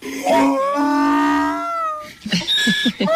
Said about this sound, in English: And the donkey starts crying. What an amazing thing.